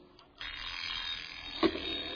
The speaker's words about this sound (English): I was looking for an alarm clock. Do you see, years ago, when Mr. McMillan was young, alarm clocks made a noise, and the noise was something like this.